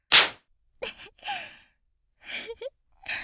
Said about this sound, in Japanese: 素敵な音。どうですかこのムチ。低層帯と一緒に注文しておいたんです。